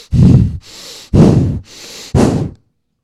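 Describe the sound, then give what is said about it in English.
A preacher breathes hard and fast through the nose, like an angry snort, to illustrate the Hebrew word for wrath: three forceful exhales with softer intakes between, in a quick, heaving rhythm, then stops. “The word means nose, nostril, rapid breathing, anger. It means this.”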